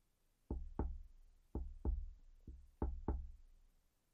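Sharp knocks on a small window come in three quick pairs, with one fainter tap between the last two pairs. The taps are crisp and fairly loud, and no one speaks.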